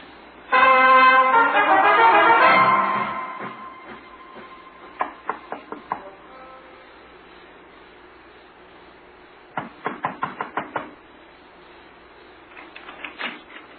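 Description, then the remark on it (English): Knocking on a local farmer's door by a sheriff and a Royal Canadian Mounted Police officer comes in a few separate rounds of quick, sharp raps, the last round fainter, after a loud droning sound at the start. No one speaks. “Sorry to be so persistent, Mr. Kendall. We tried the front door and the side...”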